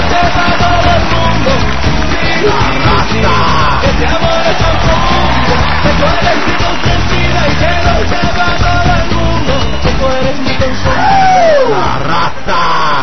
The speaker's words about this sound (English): Oh, and the fireworks go off, and here comes Julio Rodrigo de Hoyos down to ringside and listen to the fans chant.